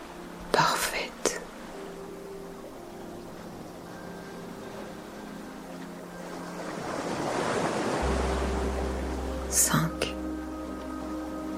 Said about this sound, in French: Mélodie s'invite à vos oreilles, remplaçant celle des vagues que vous avez laissées derrière vous.